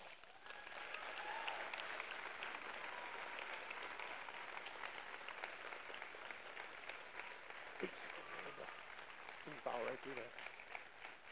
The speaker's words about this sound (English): All right. Well, hey, let's give everyone a round of applause one more time.